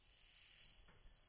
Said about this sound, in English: You nailed it. It's a hummingbird snoring. What? Isn't that so cute?